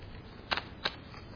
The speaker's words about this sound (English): It took more effort for me to pick this piece of paper up than it did for God to speak the universe and the worlds into existence. It's nothing for Him. Absolutely nothing. He just spoke it. I have to lift this paper.